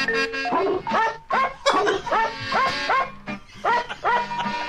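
A novelty record made with primitive editing: a rapid string of short dog barks spliced together at varying pitches, forming a bouncy melody over a steady musical backing, loud, with a jerky, rhythmic pattern.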